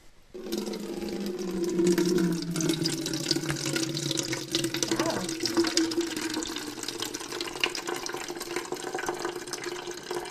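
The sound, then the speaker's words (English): Liquid drains out of a soggy bin in a steady, continuous gush with a faint low hum underneath, holding fairly even loudness for about ten seconds with no talking. “It's quite soggy in here, and that's because I haven't drained off the liquid for a while, so we might want to do that”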